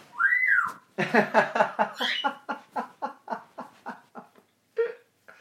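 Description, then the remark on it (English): A female pet bird gives a rising-and-falling whistle, then a run of rapid, chuckling, laugh-like pulses that slow and fade, ending with one short chirp. No one talks. “Tell you what, guys, that bird is one in a million.”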